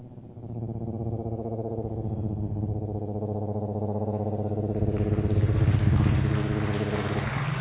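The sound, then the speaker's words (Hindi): A helicopter arriving at an airport, its steady, throbbing engine drone with a fast chopping pulse growing louder as it approaches, then holding strong with no talking. “उसके बाद एक हेलीकॉप्टर आता है।”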